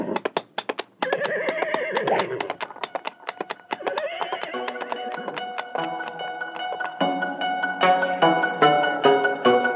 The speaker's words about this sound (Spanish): ¡Arre, caballo! ¡Arre!